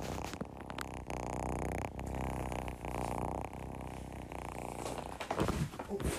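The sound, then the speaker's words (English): A male cat purrs steadily and loudly, a continuous low rumbling buzz that pauses briefly with each breath, with a bit of rustling near the end. “Listen to him purr.”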